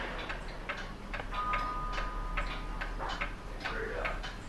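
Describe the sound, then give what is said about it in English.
Several clocks tick at once in a clock workshop, their sharp clicks overlapping in uneven clusters rather than one steady beat, moderately loud over a low hum. “It's quite peaceful in here, even, I think a lot of people relate the sound of ticking to stress, some sort of time passing.”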